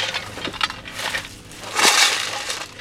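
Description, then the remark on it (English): A loud, gritty rattling of gravel shaken inside tin cans, part of a drag set up with two big ATVs and a rope by the California Waterfowl Association in a rice field about to be tilled, with dense clattering bursts that swell and fade over a few seconds, peaking harshly near the end. No voices. “They have 2 big ATVs, a rope, and tin cans filled with gravel.”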